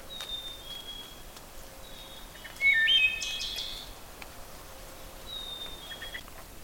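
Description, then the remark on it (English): A chickadee's clear two-note whistled 'phoebe' song, a high note then a slightly lower one, repeats several times, with a brief louder burst of other bird chatter in the middle. “You can also hear the chickadees, their Phoebe song, that two-noted song, Phoebe, Phoebe.”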